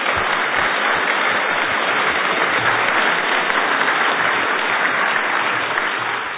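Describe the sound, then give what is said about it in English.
A church audience breaks into sustained applause to congratulate and thank members for all the work they do for the church, a dense, steady wash of many hands clapping at even loudness for several seconds, with no voices heard over it. “They put so, so much into the life of this church, and I think it would be right for us to congratulate them and to thank them with a round of applause for all the work that they do.”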